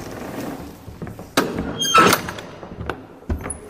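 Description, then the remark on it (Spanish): A door swings open with a mechanical clunk and a scraping rush, then thuds shut a moment later, with no talking over it. It is the door between the staff building and the storage stacks that hold old archives. “Pasamos la puerta que separa el edificio de los funcionarios de los compactos, como se dice, es decir, la reserva de los archivos antiguos.”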